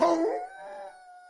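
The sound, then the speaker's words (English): A single long howl at the full moon outside rises sharply, then holds a steady, mournful tone that slowly fades away. It sounds like a dog or wolf, clear, with no talking. “howled at the full moon outside.”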